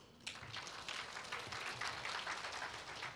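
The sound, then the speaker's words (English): A crowd breaks into steady welcome applause for a visiting family group of 22 people, many hands clapping in a dense, continuous patter that starts abruptly and holds at an even level for a few seconds, with no one speaking over it. “Wow, that deserves a welcome clap.”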